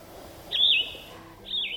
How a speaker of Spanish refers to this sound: Vamos escuchando estos pajaritos y nos vamos a otro recreo de música.